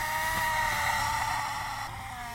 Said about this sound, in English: What you've just heard were swans making threatening hisses from within cages.